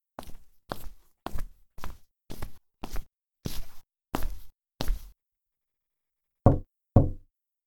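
household object, knocking on a door

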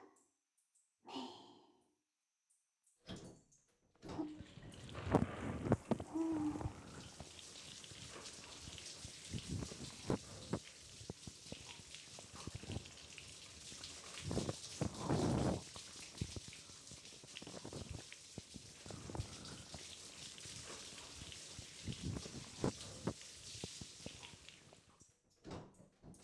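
household object, shower water spraying

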